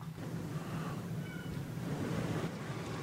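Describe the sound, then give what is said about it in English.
A steady, rushing roar of ocean waves washing in without pause, fairly loud, with a deep rumbling low end and no voices. “Sounds like the waves of life are calling us back to take care of the day-to-day.”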